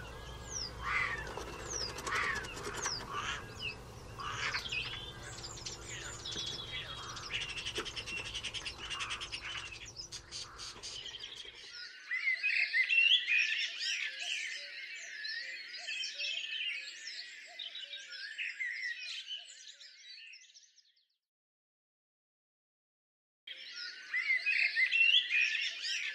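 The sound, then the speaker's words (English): A starling sings a long, busy stream of clicks, whistles, warbles and mimicked calls, fairly loud, with a brief silent pause before the varied chatter resumes. “So, follow your local starling and see if you can identify these mimicking masters.”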